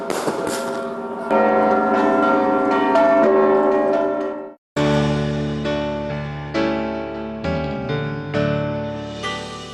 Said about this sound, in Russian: А завершением масштабного праздника стало огненное шоу и фейерверк под перезвон всех колоколов Спасского собора.